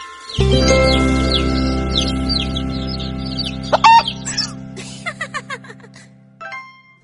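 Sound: chicks cheeping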